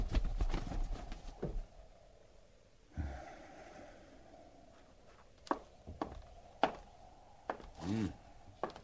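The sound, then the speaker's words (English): A few irregular, sparse hoof clops ring out while a horse snorts and blows heavily, with no one talking. “hobble them horses and get up.”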